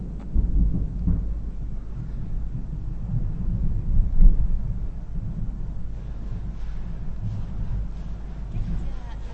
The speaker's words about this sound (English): We've got rain and thunder in Yokohama